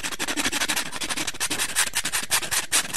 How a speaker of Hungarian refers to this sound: Újabb 3 napos menetelés után már nagyon koszosak és rendezetlenek voltak a körmei, leült hát egy fatönkre, elővette a körömreszelőjét, és nekiállt szépítkezni.